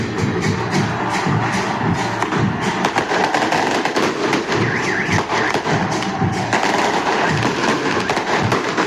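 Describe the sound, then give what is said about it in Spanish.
Fireworks bang and crackle continuously in a dense, rapid barrage, with sharp pops and thuds layered over a loud roar from a crowd of football fans, relentless throughout, as flares are launched in view of the police. “Esos son los fuegos artificiales que se han dado durante las últimas horas a vista y paciencia de la policía.”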